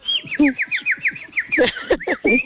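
A rapid, steady series of bright, chirping whistle notes repeats for a couple of seconds, fairly loud, with some lower, busier sounds joining underneath toward the end.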